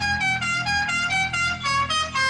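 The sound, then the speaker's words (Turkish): Several car horns blare continuously in overlapping, sustained honks, some steady and some pulsing, loud, in a traffic jam, with no voices. “Trafik sıkıştığında basılan kornalar”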